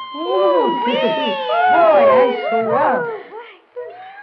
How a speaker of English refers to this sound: Meow! You forgot all about me. Is there anything for me to eat?